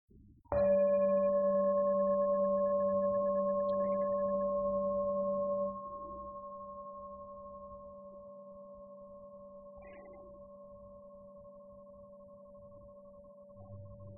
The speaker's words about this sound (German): Kannst die Augen sanft schließen. Und dann mit dem Klang der Glocke ganz zart in dich hineinspüren.